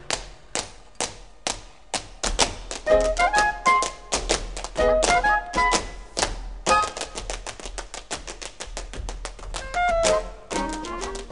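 A Broadway cast recording plays a dance break: rapid, crisp tap-dance steps clatter in quick rhythmic bursts, punctuated by short bright instrumental notes, loud and close, with no singing.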